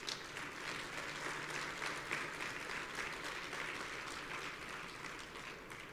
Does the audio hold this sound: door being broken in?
no